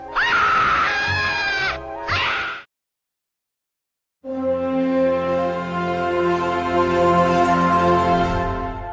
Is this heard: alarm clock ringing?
no